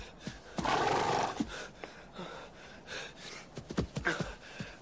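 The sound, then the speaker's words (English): A horse whinnies loudly, a long shrill neigh near the start followed by snorts, breathy blows and a few shorter whinnying calls with no talking. “How would you like it if I made you a present of this fine horse?”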